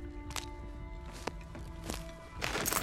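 Footsteps of a mother and the speaker walking together to a synagogue at an unhurried, fairly regular pace, each step a soft distinct thud, set against a steady low background hum with no talking.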